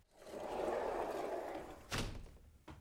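A broad mechanical whoosh rises and holds for over a second, then a sharp thunk lands, followed by a softer knock, like automatic sliding doors gliding open and shutting.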